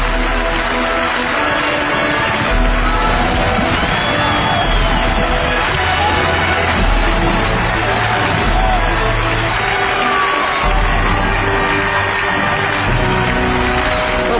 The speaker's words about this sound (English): Is the sound of applause.